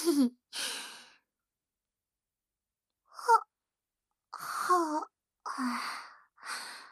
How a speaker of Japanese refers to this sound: やば、めっちゃあくび出ちゃった。